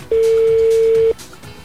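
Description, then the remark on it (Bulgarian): A single steady telephone ring tone sounds for about a second, loud and clear, then cuts off, leaving faint background noise. “Звъни телефона.”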